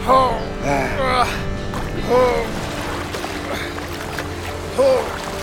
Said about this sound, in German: Ein Ruderboot kam direkt auf uns zu.